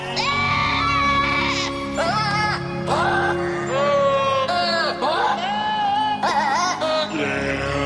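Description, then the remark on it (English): Goats bleat in wavering, pitched cries arranged to a holiday tune on a holiday music album by the Swedish charity Action Aid Sweden, with loud, steady musical accompaniment underneath and one bleat following another across the melody. “They put out an album of holiday music, and instead of people singing the songs, we have goats.”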